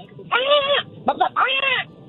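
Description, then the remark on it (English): A woman does a chicken call over a phone line in a ladies' chicken-calling contest: two drawn-out, wavering squawks with short clucking bursts between them, loud and nasal, with the pitch arching up and down on each call. “Fair for the Ladies Chicken Calling Competition?”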